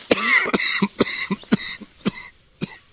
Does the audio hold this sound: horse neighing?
no